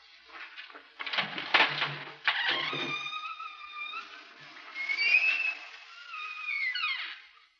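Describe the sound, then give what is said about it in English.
A door is unlatched with a short rattling clunk, then swings open on a long, high, wavering hinge creak that rises and falls for several seconds before trailing off. “Ready, Mr. Collins? Ready. Open the door.”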